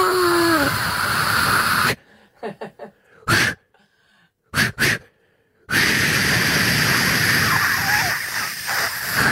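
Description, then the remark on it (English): A voice imitates a can of Mortein aerosol insect spray being sprayed at a cockroach, with a long, loud breathy hiss, a pause with two short sharp puffs, then another sustained hiss lasting several seconds. “I'm like, dude, it's dead. Stop spraying that.”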